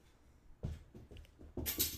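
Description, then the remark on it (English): A glass scrapes and knocks across a tabletop in a few uneven bumps, ending in a brighter clink with a short ring. No one speaks. “It goes into I the really thing, thought that glass, was going to hit me it.”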